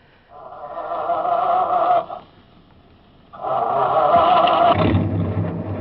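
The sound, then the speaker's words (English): A truck engine cranks with a strained, droning whine, pauses, then cranks again until a deep low rumble catches and the motor keeps running, as the truck is started with the keys left in it. “I will take a chance on the confusion and grab that first truck.”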